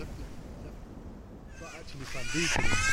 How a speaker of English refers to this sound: So these are the jackdaws attacking a crow. So jackdaws and crows are close cousins, but the jackdaws are a different species. So they don't really like the bigger crow being in their territory, so they're just chasing it all the way off.